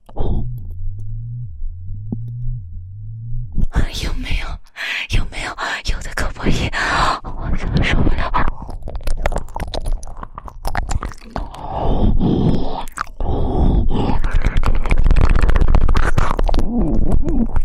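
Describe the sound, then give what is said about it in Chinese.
A muffled, low-pitched buzzing vibration from a vibrating device, heard as a mouth covers the microphone, pulses in a steady repeating rhythm, then gives way to louder, rough rumbling and scraping noise mixed with muffled vocal sounds. “我发现这个东西，我用嘴巴堵住麦克风的时候，这个声音会从嘴巴里传出来。它是骨传导的吗？”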